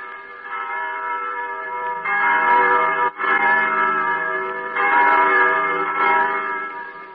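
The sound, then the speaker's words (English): Church bells ring in a continuous, overlapping wash of sustained tones, fairly loud and steady, with the pitch blend shifting a few times and a brief dip partway through. “If only I could still hear the wind and the trees, the larks and the sunshine, the young lambs crying through the healthy frost, and the blessed church bells.”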